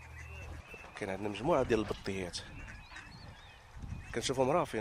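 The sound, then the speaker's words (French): A flock of at least 200 ducks calls on the open water of a lagoon, loud nasal honks and quacks overlapping in bursts, with quieter birds chattering between them over a low rumble of wind. “Il y a de nombreux canards ici. Regardez là-bas, il y en a au moins 200.”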